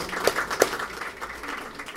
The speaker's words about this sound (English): Sure is good to be here in ILAA and here at the zoo. I really like this venue, frankly, you know. Let's clap for that, huh?